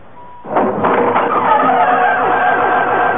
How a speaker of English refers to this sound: The stone corridor. The door.